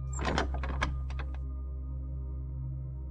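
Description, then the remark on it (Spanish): A door opens with a quick series of sharp clacks and knocks from the latch, lasting about a second, then only a low steady hum remains. No one speaks. “La puerta se abre.”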